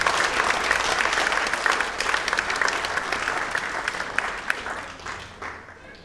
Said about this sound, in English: Bless you guys. Round of applause for them. There we go.